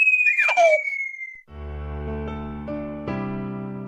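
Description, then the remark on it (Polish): Young preschool children from the municipal preschool and nursery Ekolutki in Ełk, visiting a radio studio, shout and shriek in high, excited voices for about a second and a half, with a thin whistle-like tone running through, before steady, sustained musical tones take over. “Te odgłosy w naszym studiu to nasi mili goście.”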